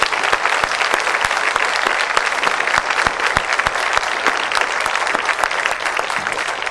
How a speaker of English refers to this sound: join me, first of all, in a big round of applause for Mrs. Peppard's 50 years of Christian education